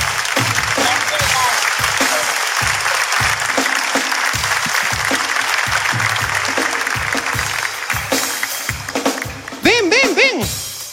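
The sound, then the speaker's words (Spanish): A crowd claps steadily and loudly for several seconds, a dense wash of applause with some cheering voices rising near the end. “Un fuerte aplauso para mi amiga.”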